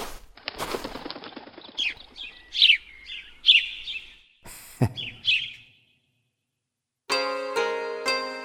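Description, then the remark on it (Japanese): Sparrows chirp in a quick series of short, bright tweets, with brief fluttering bursts like wings. After a moment of silence, a sustained musical tone begins. “我と来て遊べや親のねえスズメか。”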